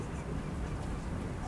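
Faint gull cries drift in from far away over a steady low rumble of waterfront ambience, the calls thin and scattered rather than close or loud.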